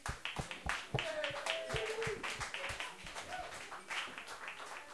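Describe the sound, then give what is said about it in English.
A concert audience applauds a performer after a performance, with dense, irregular clapping that stays fairly loud for the whole five seconds, with a few brief whistles or cheering voices rising above the claps. “Again, applause to the ….”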